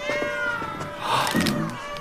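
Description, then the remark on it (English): Hundreds of white cats in a cat room meow at once, overlapping high, wavering cries forming a dense chorus that swells midway and stays loud throughout, with no talking. “Cats. Hundreds of white cats.”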